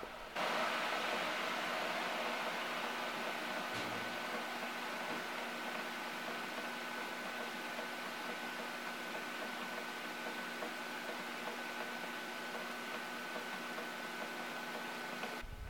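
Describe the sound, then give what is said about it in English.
Heavy raindrops patter down in a dense, continuous wash of hiss that stays fairly loud and even throughout, with a faint steady hum underneath and no voices. “Some of the really thick raindrops are padding down in a way that kind of makes a really weird rhythm, like Mother Nature beatboxing.”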